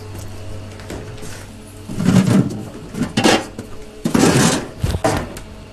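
Clattering and rustling of items being handled and pulled out, with a couple of clunky bursts like a fridge door or drawer and containers shifting, close by with no talking.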